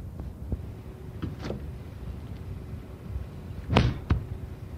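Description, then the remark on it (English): A fridge door is handled with a few soft clicks and rustles over a low hum, then a louder whooshing thud as it shuts, followed by a smaller knock. “That is the fridge door, Olive, and it's one particular door.”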